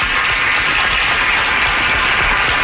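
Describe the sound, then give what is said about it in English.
A crowd applauds steadily, a dense wash of many hands clapping at an even, loud level throughout, with no voices standing out. “Tell you, give yourself a round of applause, humans.”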